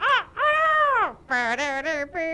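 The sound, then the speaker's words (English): A person crows loudly, imitating a rooster: one long, bending call followed by a quick run of shorter, choppy cries, with no other sound around it. “I got a crow.”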